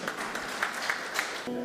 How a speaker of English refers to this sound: Give God a clap, everybody.